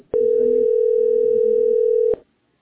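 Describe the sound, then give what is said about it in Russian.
A steady, loud telephone dial tone hums continuously for about two seconds, starting and stopping abruptly with faint background murmur underneath. “Там же прямой телефон бывал всегда.”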